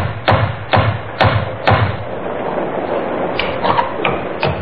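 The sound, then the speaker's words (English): Four firm, evenly spaced knocks on the wooden door of an inn during a thunderstorm with rain, resonant, followed by a few fainter taps and shuffling sounds. No one speaks. “and then knocked on the door of Webley's Inn.”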